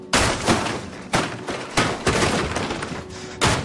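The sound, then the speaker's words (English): A paper towel dispenser in a bathroom is punched and crashes to the ground, shattering in a loud burst of clattering debris, with several more sharp impacts and rattling pieces following over a few seconds. “He tries unsuccessfully to get a paper towel. He punches it.”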